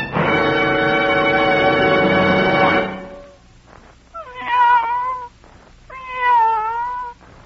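A cat lets out a long, drawn-out yowl lasting a few seconds, then after a pause gives two shorter, wavering meows. It sounds loud, with no talking.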